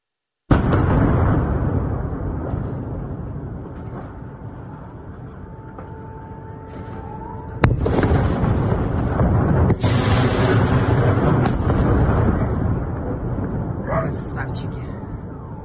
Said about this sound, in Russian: Вот появилось в сети видео из взрывов Новой Каховки. Давайте посмотрим.